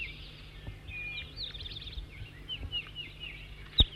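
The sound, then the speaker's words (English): High, thin bird chirps and twittering notes from a newly arrived bird, numbered 206 or 207, repeat through a low background hum, ending with a sharp, louder click or snap near the end. “The new bird is 206 or 207, I'm not sure. That's 4-3 in song now.”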